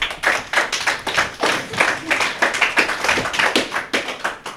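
A group claps steadily for several seconds, a dense run of sharp hand claps with no voices on top, as an audience applauds the contestants of the Bubble Game on the school radio of École Paul Langevin.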